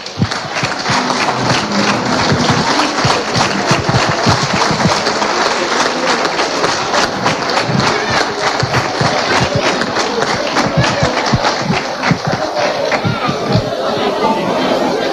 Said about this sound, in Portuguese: Por favor, peço que se levantem e uma enorme salva de palmas para os nossos 4 colaboradores.